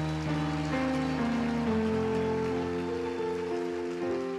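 crowd, audience applauding

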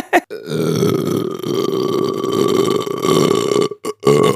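human body sound, long burp

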